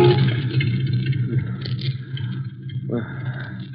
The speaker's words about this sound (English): As the deadly fumes begin to fill his lungs, Cranston's head slumps forward, strikes the horn of the steering wheel. The piercing sound rouses him from his stupor.